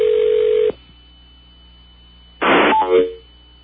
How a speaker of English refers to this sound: Then you hear what the listeners hear when the phone picks up, which is kind of a weird noise. And only listeners know this.